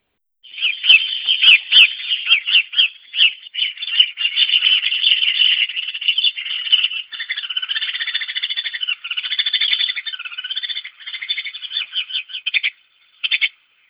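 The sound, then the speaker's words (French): A house sparrow chirps and chatters continuously, a busy run of bright, repeated notes with no other sounds, ending after a short pause with a final couple of chirps. “Bon, vous aurez compris, hein, tout le monde a déjà vu des moineaux, ça part un peu dans tous les sens.”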